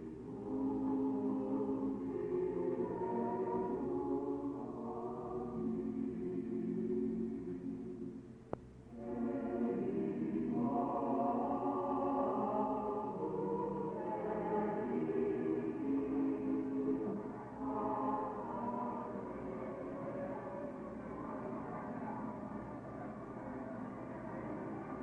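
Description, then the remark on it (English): A steady, dense murmur of many voices from a crowd gathering in the street at Chalcedon in 451 A.D., waiting for the council to begin, blends into one continuous babble, holding a fairly even loudness apart from a brief dip with a sharp click partway through. “You can hear the crowds as they gather here in the street, waiting for the council to begin.”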